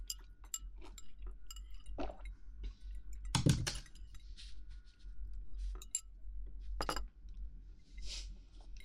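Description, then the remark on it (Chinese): Sake glasses clink together in a toast over sake and salmon, one bright ringing clink in the middle and another shortly after, with light scattered clicks around them and no talking. “一口三文鱼，一口清酒，这样才是绝配。来，干杯！”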